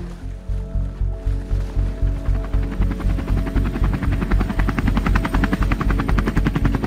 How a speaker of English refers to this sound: But right at that moment, a helicopter hovered over us and a guy on a wire just appeared in the scene. Very relieved that he'd come down on the wire.